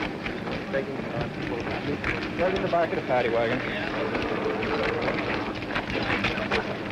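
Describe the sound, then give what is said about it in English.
Dense, irregular crackling and popping of flames burning paper 1A draft records runs steadily throughout, mixed with a loud wash of background noise while people, including police, talk over it. “That crackling you heard is the flames burning up those 1A draft records.”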